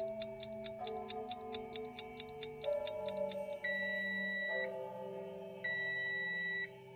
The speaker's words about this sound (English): Meanwhile, the insistent ticking of the Insta oven's timer filled the air, growing louder and louder with each passing moment.